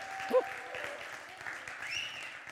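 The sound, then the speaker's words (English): An audience gives God a hand clap, clapping their hands in a steady, dense patter of applause, with some voices calling out over it and a brief tonal whoop near the start. “Everybody give God a hand clap.”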